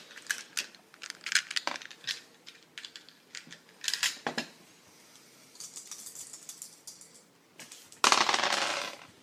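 Dice rattle and clatter across a hard tabletop in a flurry of sharp clicks, pausing briefly before a louder, denser scatter of tumbling near the end, rolled for a 3d6 weapon damage roll in a tabletop game.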